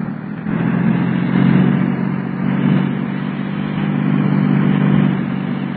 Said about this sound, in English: And turn the car around. Give her a shot of that high-power gas.